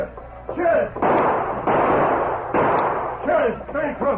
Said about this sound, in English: Then the sheriff opened fire. As he triggered his guns,